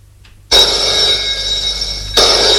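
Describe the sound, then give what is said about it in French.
A telephone bell rings loudly in a home as a hospital calls, a bright metallic trill that starts after a brief silence, continues steadily, and briefly restarts near the end. No one speaks. “Le téléphone sonne.”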